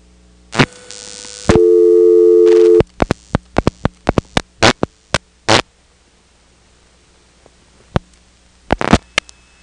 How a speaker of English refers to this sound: And you'll hear that while we're dialing it. We'll drop the director, dial 6 for Elizabeth City, 3 for the 771 office, at which point you'll hear this hum come on, and then 3 digits for a ringing number.